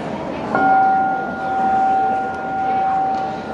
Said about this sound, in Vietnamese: Thỉnh tiếng chuông.